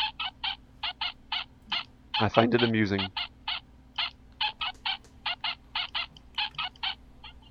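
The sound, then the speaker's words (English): A toy dog's electronic bark, played several times in a row, repeats in a long series of short, tinny yaps at a clipped rhythm, fairly loud, with a person briefly speaking over it partway through. “It makes a little electronic dog barking noise. But if you play it several times in a row, it gets slower and slower.”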